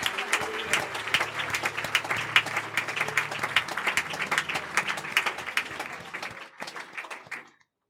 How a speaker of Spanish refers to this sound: Si usted lo cree, y cree que Dios va a mover y escuchar las oraciones de cada madre, denle aplauso al Señor, denle gloria a Dios.